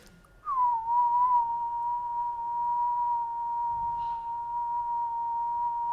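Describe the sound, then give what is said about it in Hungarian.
A person whistles a single steady, pure tone that mimics an electronic sine tone, sliding briefly into pitch and then holding it evenly for several seconds, close and clear, with no talking. “Ezt nagyon sokat gyakoroltam, az elmúlt 15 évben minden nap fütyültem 1 kHz-es színuszjelet.”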